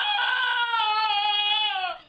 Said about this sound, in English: Wow, that just sounds scary. It sounds like someone just fell. Yeah. Harriet, the donkey, lives near Galway, Ireland.